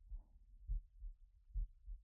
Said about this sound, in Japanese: この位置だったら心臓の音も聞こえるよね。私もこの体勢だったら君の心臓の音が聞こえるよ。